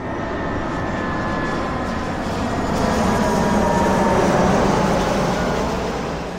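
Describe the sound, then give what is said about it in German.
An airplane passing overhead, a broad, steady engine roar that swells gradually toward its loudest point and then begins to ease off, with no voices present. “Ein vorbeifliegendes Flugzeug.”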